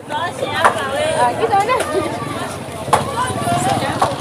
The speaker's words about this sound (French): Les étals sont remplis de fruits, légumes, viandes et poissons. Les clients font leurs courses et les vendeurs crient pour attirer l'attention.